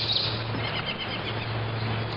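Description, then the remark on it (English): Faint songs of several birds, the lazuli bunting, yellow-breasted chat, black-capped chickadee, house finch and yellow-billed cuckoo, chirp through a steady wash of outdoor noise and a low hum near the North Fork of the Gunnison River in Colorado, with no talking. “We're hearing the songs of the lazuli bunting, yellow-breasted chat, black-capped chickadee, house finch, and yellow-billed cuckoo.”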